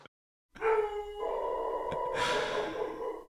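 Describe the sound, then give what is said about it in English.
An old female hunting dog lets out one long, sustained howl lasting about three seconds, its pitch shifting partway through and turning rougher toward the end, fairly loud with no talking. “Well, she's an old hunting dog, isn't she?”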